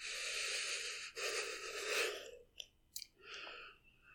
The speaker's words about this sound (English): Listen to my breathing hitch.